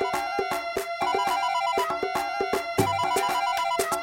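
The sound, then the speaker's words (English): A musical ringtone from a second phone plays steadily for a few seconds, a bright electronic melody of stepping tones over a regular beat, fairly loud, with no voices. “Oh, my other phone's ringing.”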